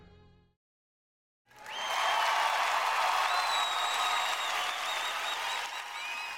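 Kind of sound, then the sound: crowd, audience applause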